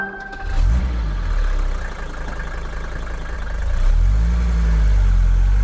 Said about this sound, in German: Ah, da startet ein Auto mit Dieselmotor. Diesen Motor hat der deutsche Rudolf Diesel erfunden und genau heute vor 125 Jahren zum Patent angemeldet.